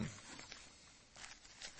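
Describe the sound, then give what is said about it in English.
Soft rustling of papers being shuffled, a few quick crinkly bursts spread over a couple of seconds, fairly quiet with no one talking. “I get these things all shuffled around here.”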